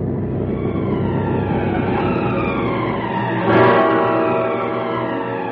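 An ambulance siren wails steadily and loudly, its pitch sliding slowly up and down, swelling a little louder partway through as it draws near, arriving at the scene of a car accident on a highway where a car rolled over. No one speaks.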